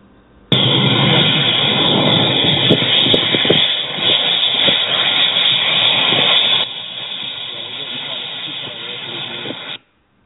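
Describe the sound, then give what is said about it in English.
A pipe sticking out of the ground in a field, surrounded by small pieces of iron, gives off a loud, steady hiss that rushes on for about nine seconds, easing to a slightly softer level near the end before cutting off abruptly. “So that basically was you driving by and you saw like a pipe sticking out of the ground surrounded by a small like pieces of iron, and it was making that noise as you drove by in a car.”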